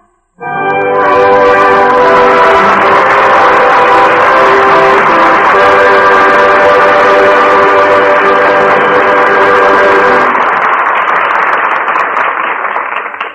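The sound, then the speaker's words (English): A loud, steady sound of a train speeding along the rails to the theater runs throughout, with a sustained multi-toned whistle or horn blaring over the rushing rumble for about ten seconds before the roar carries on alone. No one speaks. “Speed on train to the theater.”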